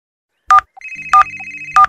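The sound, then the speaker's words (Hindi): A mobile phone rings loudly, sounding three bright electronic chirps spaced evenly apart over a sustained synthetic tone, with no voices; a button was pressed by mistake and the ringing will not stop. “पता नहीं मुझसे कौन सा बटन दब गया और इस मोबाइल फोन की आवाज बंद ही नहीं हो रही है।”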